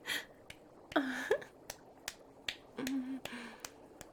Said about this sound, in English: Oh, you want to watch me make these thick, bouncy ass cheeks clap together again? Yes, sir, right away.